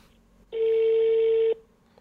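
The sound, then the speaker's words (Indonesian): A phone call ringing out: one steady, mid-pitched ringback tone lasting about a second, loud and on its own, then quiet line hiss. “tapi kita coba tetap telepon ya biar dia menceritakan kejadiannya sebenarnya kayak gimana.”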